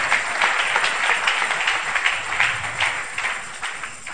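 A crowd claps steadily and loudly to the Lord, to Jesus, a dense wash of overlapping handclaps with some sharper individual claps standing out, sustained for the whole few seconds without any talking.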